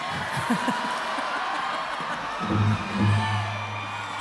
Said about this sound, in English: Who is the person that's yelling that?